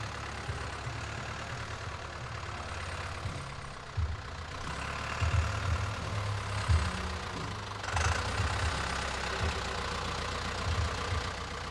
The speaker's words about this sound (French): Voilà, ça c'est pour annoncer l'arrivée du tracteur, c'est jour de fête, jour 1, c'est la pré-fête.